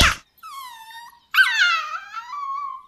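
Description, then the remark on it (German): A wolf in a video game lets out two drawn-out, high-pitched yelps in quick succession as it is kicked, the second louder and wavering, after a short thump at the start. “Nimm das, du blöder Wolf. Und das.”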